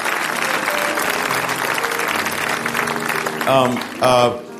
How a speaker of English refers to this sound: Come on, let's stand our feet and give God another hand clap of praise.